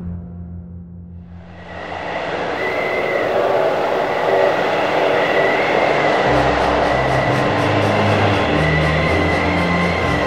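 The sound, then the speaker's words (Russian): A government train crawls slowly across the snowy steppe late in the evening in January 1928, during a strong blizzard in Altai, its steady low roar building after a quieter start with continuous rolling noise and faint metallic tones, fairly loud, with no voices. “Поздним вечером правительственный поезд медленно полз по заснеженной степи.”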